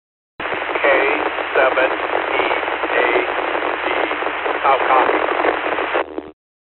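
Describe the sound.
A weak, garbled voice comes through a narrow, tinny amateur radio channel with low audio, buried under steady crackling static for several seconds before the signal abruptly cuts off.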